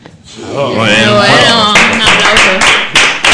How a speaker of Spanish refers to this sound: Oh, bueno, un aplauso. No tenemos FX para meterle el aplauso de lata. De verdad.